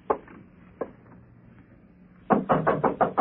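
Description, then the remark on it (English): Knocking on a door: two separate knocks with a pause between them, then a quick, louder run of about six raps. No one speaks. “Door's open. Come on in.”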